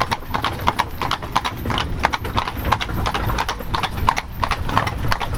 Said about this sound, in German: Jsme s Friedensglockentreck e.V. Momentálně jsme zapřaženi s 5 koňmi